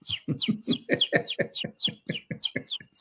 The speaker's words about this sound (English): Bigger question here. Where are those fucking birds? Jesus, like, can't you shut them up?